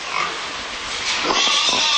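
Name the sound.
pigs oinking and squealing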